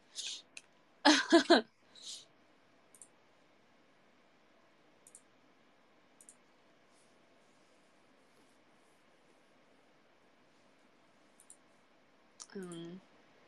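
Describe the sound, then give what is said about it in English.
A short burst of loud clacks from stiff keyboard keys, followed by a few isolated, quieter key taps spread across a mostly quiet stretch, with a brief tonal warble near the end. “This one has like kind of stiff keys, I think.”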